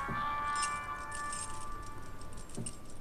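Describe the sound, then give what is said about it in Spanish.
A bunch of keys jingles and clinks as it is set down, bright metallic rattles fairly clear, with a sustained ringing tone in the background and no one speaking. “Aquí les dejo estas llaves.”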